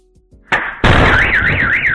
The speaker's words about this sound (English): Second bang is the lady landing on top of the car.